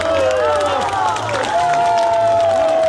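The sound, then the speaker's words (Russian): A standing audience, mostly pensioners, applauds steadily and loudly in Sevastopol, greeting a new work calling for Stalin's monument to return; dense clapping mixed with crowd noise, while sustained tonal voices or music carry on over the applause throughout. “Новую работу слушатели, в основном пенсионеры, встречают стоя аплодисментами.”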